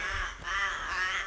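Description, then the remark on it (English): Birds give harsh, nasal calls outdoors in the Knocklofty Reserve during a cold morning walk, two drawn-out squawks in quick succession, loud over a low rumble of open-air background. “I've just got some people joining in here, some birds.”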